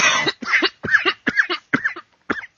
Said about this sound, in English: So he has a coughing fit. And then they choke and die.